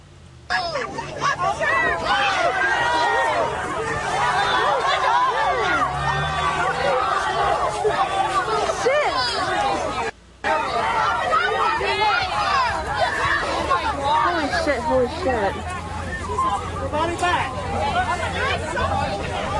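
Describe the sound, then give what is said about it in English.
A large crowd yells "oh" over and over as a woman beats up a man who was holding a hateful, misogynistic sign, many voices overlapping into a loud, continuous roar that cuts out briefly midway, then resumes just as dense. “I know mostly it sounds like people yelling the word "oh," but in fact it was a woman who saw his filthy ass sign and proceeded to give him the beat down for which he was apparently begging.”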